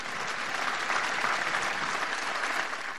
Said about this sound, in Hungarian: Con un applauso salutiamo quelli che sono in aula.